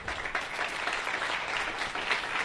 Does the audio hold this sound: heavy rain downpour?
no